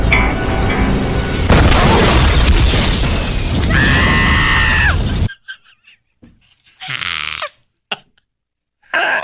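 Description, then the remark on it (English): A person screams amid a loud, chaotic burst of booming and crashing noise, then a few short, strained vocal bursts follow in near silence. “I didn't tell you to scream at the end, but I'm glad you added it in.”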